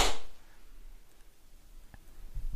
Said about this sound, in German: Und dann auf drei und dann klatschen. Eins, zwei, drei.